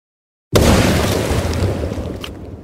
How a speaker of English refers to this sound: And with that, it detonated with a large boom.